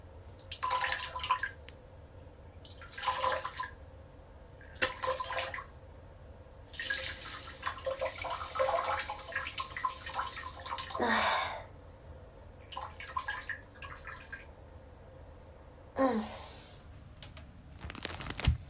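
Urine splashing into a toilet bowl in a series of short, hissy water bursts, with one longer steady stream in the middle, broken by quiet pauses. No one speaks.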